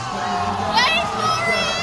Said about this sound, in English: Their teammates groan and cheer from the audience as beanbags slide into place, or sometimes land frustratingly close to the hole without sliding in.